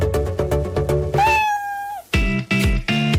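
A single drawn-out cat meow, rising in pitch and then holding steady, sits between stretches of loud, rhythmic, pulsing music.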